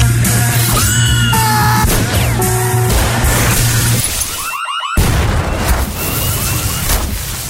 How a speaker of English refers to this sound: That trailer's just got a lot of explosions in it, hasn't it? Perhaps it's fair to say, television. Yeah, definitely. I think it's fair to say there are a lot of explosions in the show.